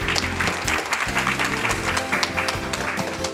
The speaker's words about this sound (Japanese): 皆様大きな拍手お願いいたします。